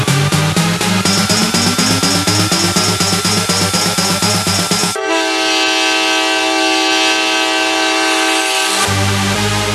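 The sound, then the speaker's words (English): A train chugs in a steady, quickening rhythm with a rising mechanical whine, then a loud, sustained horn blares for several seconds before the chugging briefly returns. No one speaks. “I think this train's about ready to move.”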